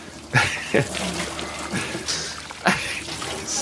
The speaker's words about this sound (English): So Rambo's washing his face and hair in the basin there or whatever.